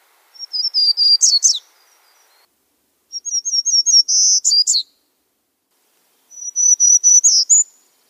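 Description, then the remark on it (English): A warbler sings from way up in the canopy of an Olympic conifer forest: three high, nasal whistled phrases, each a quick run of repeated notes ending in a buzzy flourish, separated by short pauses, clear and with no voices. “These lovely high nasally whistles coming from way up in the canopy.”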